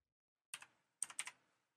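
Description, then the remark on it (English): A few sharp, clicky keystrokes on a computer keyboard: a quick double tap, a pause, then a short burst of three or four keys. No one speaks. “He has a noisy keyboard.”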